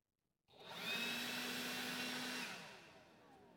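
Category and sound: machine, leaf blower running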